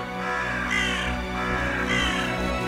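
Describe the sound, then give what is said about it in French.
Crows caw twice, harsh and raspy, each call drawn out and fairly loud, over a steady low hum with no talking. “Du coup, il lance un sortilège que ça les fasse transformer en corbeaux.”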